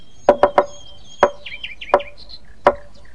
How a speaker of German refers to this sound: dann macht ihr nur auf, wenn ich 3-mal schnell und 3-mal langsam klopfe. Etwa so.